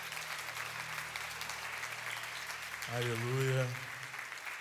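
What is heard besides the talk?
audience applause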